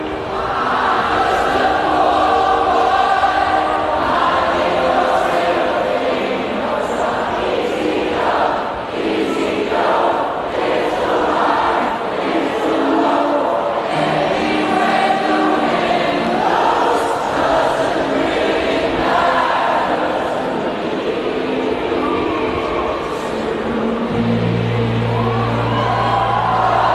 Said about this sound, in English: Gave me chills. Listen to this. Crowds are noisy. Listen to this. That's the crowd. Isn't that beautiful?